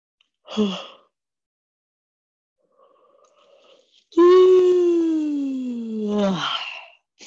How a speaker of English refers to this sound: And yawns are always welcome.